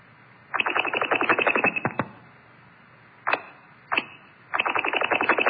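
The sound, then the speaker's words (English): A quick, narrowband wink-back chirp over a radio line, heard twice in a row, between longer buzzy bursts of rapid pulsing tones. Fairly loud, with no talking. “So the wink back is a very quick chirp you hear.”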